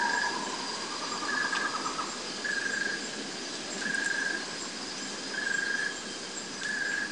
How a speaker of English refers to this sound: in northern New South Wales. The wind rises. There's a white-throated nightjar in the distance.